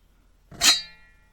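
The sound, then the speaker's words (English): A single bright metallic scrape as a metal lid with a plastic underlayer is pulled off a glass jar of chocolate, rising quickly to a ringing, sword-like shimmer that fades over about half a second. “is the sound the lid makes when you pull it off the jar.”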